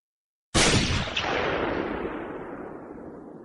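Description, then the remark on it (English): A single loud gunshot cracks sharply as the bullet rips a hole in a man's figure, then rolls out into a long, fading echo that rumbles and decays for several seconds across a New Mexico valley. No voices are present. “The roar echoed across the New Mexico Valley as the bullet ripped a hole into the lower belly of the man's figure.”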